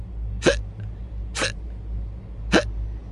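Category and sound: human body sound, hiccups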